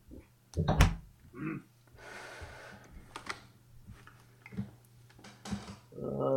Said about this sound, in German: warte mal, ich mach mal Tür zu.